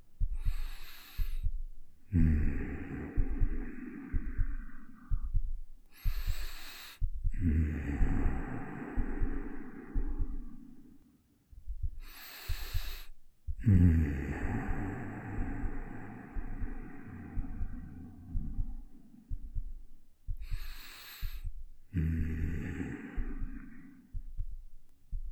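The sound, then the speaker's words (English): A soft, steady heartbeat thumps low throughout, while slow, deep breaths rise and fall over it, each long inhale and exhale spaced several seconds apart. “I'm gonna let you lay here on my arm and just listen to that gentle heartbeat as I breathe.”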